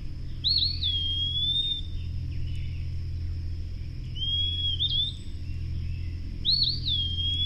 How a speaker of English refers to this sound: Standing at dawn along the banks of the Ohio River, Kreutzma eavesdropped on this eastern wood peewee, a tiny olive-gray bird, often difficult to see.